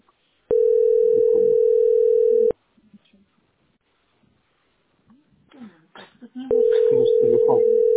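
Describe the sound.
A loud, steady telephone line tone sounds for about two seconds, breaks off, then returns near the end, with people talking quietly in the gap and over the tones.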